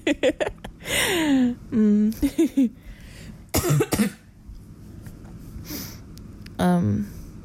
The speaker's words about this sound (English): I'm probably going to edit out these coughs, but if I don't, it's fine. I don't have the virus. It's still just that cough that I've had for a little while now.